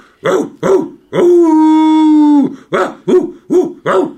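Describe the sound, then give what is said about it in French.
A man's voice, hands cupped like a megaphone, imitates hounds baying as they run on a hunt: two short yelps, then a long drawn-out howl, followed by a quick run of four yapping barks, loud. “Et Caniveau, formant un porte-voix de ses mains, commença à imiter les aboiements des chiens courant en chasse. Il jappait, hurlait, piaulait, aboyait.”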